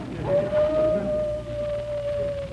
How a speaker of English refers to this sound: My wife's calling me. Sounds like a wolf.